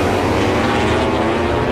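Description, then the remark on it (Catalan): Loud, continuous engine roar from MotoGP racing motorcycles at the French Grand Prix, a dense high-revving drone that holds steady throughout, with no voices. “Puja, Blai, puja el volum d'aquestes motos.”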